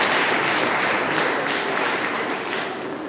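An audience applauds steadily for about three seconds, a dense, even wash of many hands clapping at constant loudness, tapering slightly at the end, with no voices over it.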